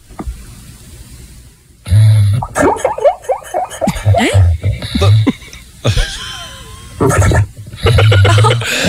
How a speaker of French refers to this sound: Ah, moi, des chiens qui ronflent, ça me fait toujours rire, mais écoutez bien le chien que j'ai trouvé ce matin.